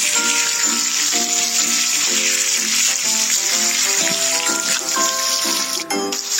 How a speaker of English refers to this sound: The first job is to hose the tiger off in, like, the shower, in, like, your house. Here we go.